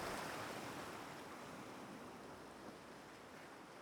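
Sea waves wash onto a sandy shore in a continuous, hissing rush of surf, steady and easing slightly in loudness, with no voices present.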